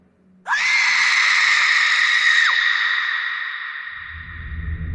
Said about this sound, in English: But then, we heard a scream.